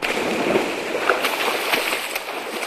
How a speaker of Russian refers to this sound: Он оказался с головой под водой. Его падение в воду было так неожиданно.